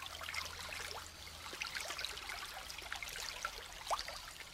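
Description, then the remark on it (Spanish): Water of the Cacao river flows steadily over rocks, a continuous bubbling, splashing rush with small trickles and gurgles popping out of the wash, moderately quiet, with no voices. “Y los dos, tomados de la mano, se metieron al río.”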